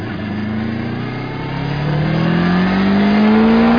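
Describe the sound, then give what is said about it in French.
A Honda VFR 800 VTEC motorcycle engine accelerates hard in top gear from about 80 km/h, its loud drone climbing steadily in pitch and growing slightly louder over a few seconds, with no voices. “Rapide avec ce 800 VFR Honda VTEC qu'il faut absolument essayer.”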